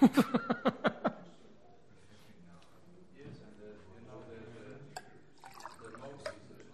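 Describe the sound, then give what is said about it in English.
Drinking water glugs out of a bottle as it is poured, in a quick run of about seven pulses, followed by quieter handling sounds and faint voices in the background. “So I'm going to grab a drink of water here.”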